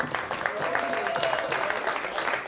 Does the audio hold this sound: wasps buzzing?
no